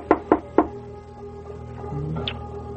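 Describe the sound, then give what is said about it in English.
Three firm knocks on the wooden door of a ramshackle house at night, in a quick, even rhythm, fairly loud, followed by a quiet, faintly humming stillness. “Now, I'll knock.”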